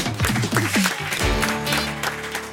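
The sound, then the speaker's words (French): An audience breaks into steady, fairly loud applause for Éric Neuhoff, mixed with a short burst of music playing underneath the clapping. “Applaudissements pour Éric Neuhoff.”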